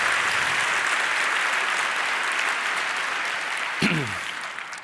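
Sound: applause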